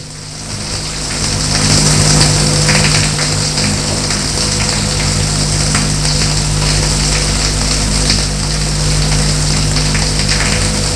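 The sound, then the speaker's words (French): A steady, loud rush of water pours unbroken for the whole stretch from a water bag as a woman showers a man, with a low hum underneath and no voices. “Et elle le douche.”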